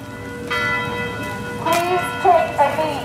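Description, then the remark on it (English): Church bells chime for nine minutes across the main square of the village of Canton, New York, during a peaceful vigil, their long resonant tones ringing and overlapping steadily, with a voice faintly audible over the ringing near the end. “That's how long the bells chime across the main square in the tiny village of Canton, New York.”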